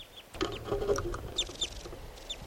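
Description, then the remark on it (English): Wild birds, at least three besides two caught in a net, call in a scattered series of short, high chirps, several sliding downward in pitch, repeating irregularly over a low rumbling background. No one speaks. “So recording the wild birds are calling some more.”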